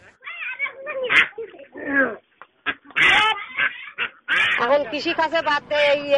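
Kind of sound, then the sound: animal, ducks quacking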